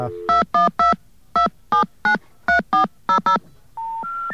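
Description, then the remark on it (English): A telephone number with its area code is dialed with ten crisp touch-tone beeps in quick irregular bursts, followed by a steady stepped tone sequence at the end; no one speaks. “Yeah, now dial, I believe, either an area code in the number or possibly zero area code number.”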